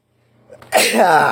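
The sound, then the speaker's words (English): A single loud sneeze: a brief quiet intake of breath builds up, then a sharp, explosive burst of air that fills the rest of the moment. “I need to sneeze.”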